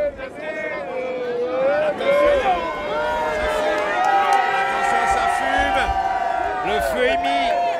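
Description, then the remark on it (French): A big outdoor crowd of nearly a thousand people roars and cheers at a bonfire, many overlapping voices shouting and whooping continuously, loud, with scattered claps and calls rising above the dense wall of noise. “Il y a quand même pas loin d'un millier de personnes hein, qui sont là. Ouais, on ne voit pas tout, là. On est dans la foule.”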